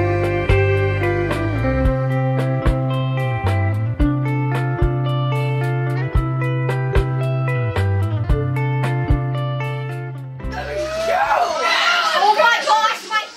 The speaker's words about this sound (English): Five kids right there playing indoors. You can hear them shouting over their video game indoors.